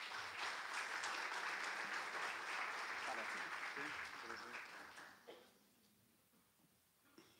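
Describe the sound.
A crowd applauds steadily for about five seconds, a dense wash of clapping that then fades out quickly, leaving a faint murmur of voices.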